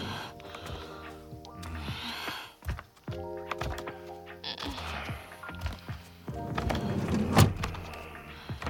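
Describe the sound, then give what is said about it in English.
A sliding door rumbles open with a motorized whir as people come through into a small room, then slides shut and settles with a solid thunk, fairly loud, with faint background voices. “Directly opposite the sliding door we came through is a small sofa.”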